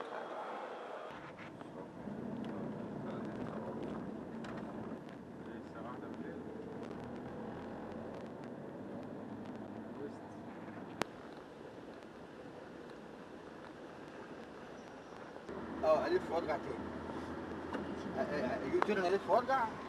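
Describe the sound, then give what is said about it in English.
Inside a moving shuttle bus at Cairo Airport, Egypt: a steady low engine drone and road rumble fill the ride, with muffled voices in the background and a louder, busier stretch of noise near the end. “Got shuttle bus time.”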